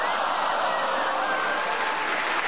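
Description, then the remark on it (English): A steady, dense wash of applause from an audience, many hands clapping together at an even loudness for the whole stretch, with no voices standing out. “The audience round of applause showed how much they appreciated it.”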